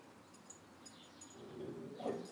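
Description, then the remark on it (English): A dog barks several times, the muffled yaps faint and spaced out irregularly, with the last bark slightly louder and more drawn out. “Who's he barking at?”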